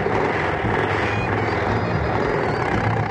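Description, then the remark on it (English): Submarine engines roar in a loud, steady mechanical drone, a dense low rumble with a hissing upper layer that holds constant throughout, with no voices. “Start the engines!”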